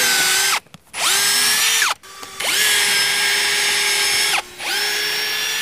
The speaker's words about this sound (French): Eh ben, c'est faire des trous là-dedans. Ah ben, oh là. Vous êtes déjà servi d'une perceuse visseuse? Oui. Ouais. Oui. Eh ben allez, prêtez-vous là. Tu la tiens à deux mains. Elle est puissante.